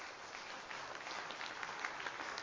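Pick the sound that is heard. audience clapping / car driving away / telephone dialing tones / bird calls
audience clapping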